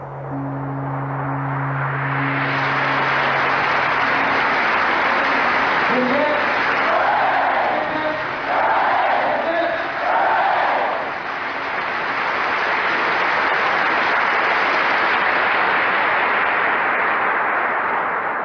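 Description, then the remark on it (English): An audience on a tape recorded about 30 years ago claps steadily for the whole stretch, a dense, even wash of applause with a few voices calling out midway and a faint low hum at the start. The clapping goes on for about two more minutes. “This clapping, it goes on for another 2 minutes.”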